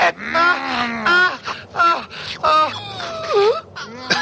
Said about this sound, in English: A lot of the feedback I've gotten on the film has characterized that as a rape scene, but going back and watching it, as much as it, her moans of ecstasy sound very ingenuine, it appears consensual throughout the whole thing